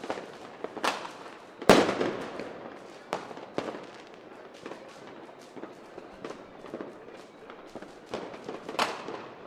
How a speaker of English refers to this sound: Boy, some of these... Some of these fireworks are achieving pretty impressive heights. Yeah. On and on they go.